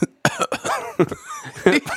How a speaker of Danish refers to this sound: Det er nok begyndt. Jeg troede, du begyndte at hoste sidste gang.